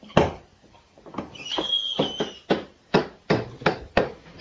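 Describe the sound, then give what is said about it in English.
A little boy bangs a toy hammer in a loose, uneven rhythm, about a dozen sharp knocks, with a brief high scraping squeak partway through. “Bang, you're banging. Let him have a hammer”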